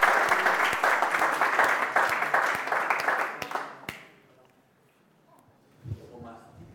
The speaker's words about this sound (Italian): Un applauso a Gesù. Gloria a Dio.